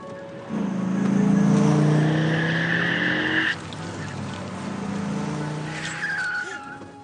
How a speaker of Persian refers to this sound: ولی این ماشین هنوز دنبالمونه ها.